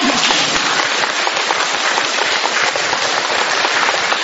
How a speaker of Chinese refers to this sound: 台长特别开心，你看看呢，人不多， 但是我听这个掌声就是几千人的掌声。